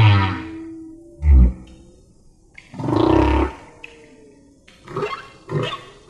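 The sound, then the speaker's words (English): Whale song plays on its own: low moaning grunts and rising tonal calls, followed by a pair of shorter squeaky calls that always come in this order. The sequence forms a repeating phrase, loud. “All the whales are doing it.”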